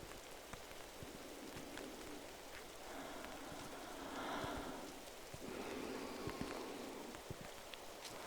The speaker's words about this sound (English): Just until the rain lets up.